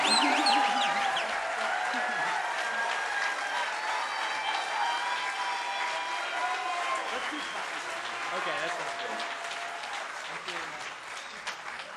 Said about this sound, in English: So let's get a good round of applause.